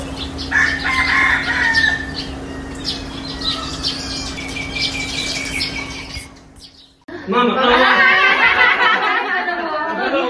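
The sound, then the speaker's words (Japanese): Free-range roosters crow and chickens cluck and squawk outdoors around a hotel, several birds calling over one another from different spots as their voices move about, with a steady hum underneath and a brief lull before a louder burst of crowing. “鶏はこれは放し飼いか、 今ホテルにいてるんだけどね、あっちこっちからね、鶏の声が移動していくんだな。”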